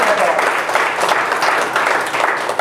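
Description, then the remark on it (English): A church audience breaks into sustained applause for the Lord, a dense, steady wash of many hands clapping at once without pause for the whole stretch. “Give the Lord a hand of applause in his house.”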